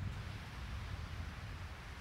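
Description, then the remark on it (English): A steady roar of ocean surf on Kauai, Hawaii, at sunset, a constant low rumble overlaid with a broad hiss that neither swells nor fades, with no voices present. “That's the real ocean.”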